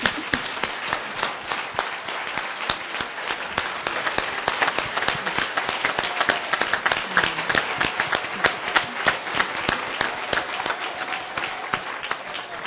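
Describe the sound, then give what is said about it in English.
Steady audience applause, a dense patter of many hands clapping that holds at an even, fairly loud level for over twelve seconds without pause or talk. “We'll continue the applause.”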